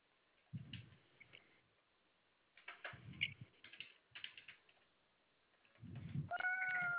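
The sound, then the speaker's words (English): Scattered soft thumps and clicks like a cat's paws pressing computer keys as it steps on a computer keyboard, then the cat meows once near the end, fairly loud. “Don't step on my computer, cat.”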